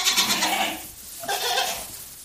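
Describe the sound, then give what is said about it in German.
Two bleats from goats at a petting zoo, one right after the other, each a wavering, nasal cry, with a short pause between them and no talking. “Ziegen.”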